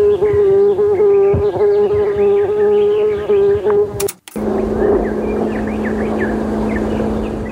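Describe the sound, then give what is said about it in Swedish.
Loud, steady insect buzzing and humming drones on with an unchanging pitch. A brief break cuts in midway, then a lower, monotonous hum continues to the end. No voices. “Massor med entoniga brum och surr.”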